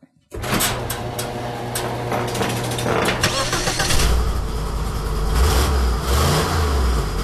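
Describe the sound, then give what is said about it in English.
A big-block Lincoln V8 engine in a garage starts abruptly and rumbles loudly, revving up and down with a raspy, ticking exhaust note from an exhaust leak. “Is that the big block Lincoln, Ben?”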